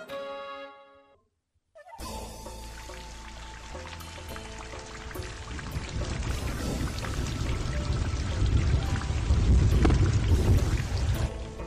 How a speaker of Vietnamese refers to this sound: Trời đang đẹp đẽ sáng sủa, bỗng dưng biến ra mây đen phủ đầy bốn phía. Trong phút chốc, mưa đã rơi xuống ảo ạt. Mưa chẳng nhỏ tí nào. Nhìn những hạt mưa rớt trên mái nhà xuống, mọi người đều bất giác chau mày.